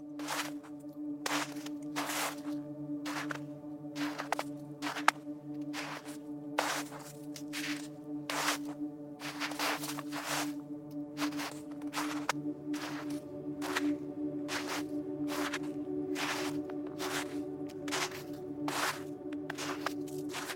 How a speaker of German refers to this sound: Alles ist von einer dichten Schneedecke überzogen und jeder deiner Schritte versinkt nahezu lautlos im weichen Weiß.